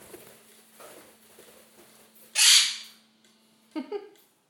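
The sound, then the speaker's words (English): A pet bird gives a short, buzzy brr call, a loud rough burst that fades off, followed by a couple of quicker chirpy sounds over a steady low hum. “And that brr is as loud as he gets.”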